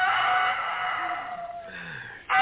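bird, rooster crowing

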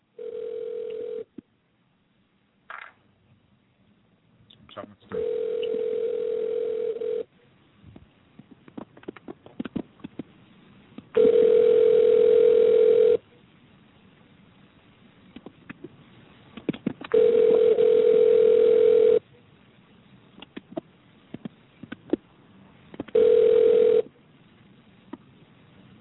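signal or alarm, telephone call tone

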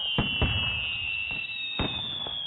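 sound effect, fireworks going off

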